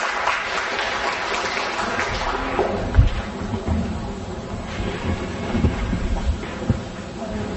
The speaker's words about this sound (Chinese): 我们来现在用掌声来欢迎他啊